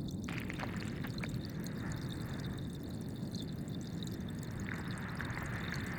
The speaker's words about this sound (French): C'est tout sauf le silence sous l'eau. On entend des craquements, on entend les vagues éventuellement. Ça crépite.